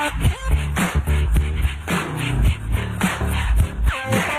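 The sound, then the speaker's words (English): Dogs barking in a steady rhythm on the Talkin' Pets show, short harmonic yaps repeating about twice a second over a full, music-like backing, loud with no talking. “These are clapping dogs, rhythmic dogs, harmonic dogs, house dogs, dogs, dogs of the world unite, dancing dogs.”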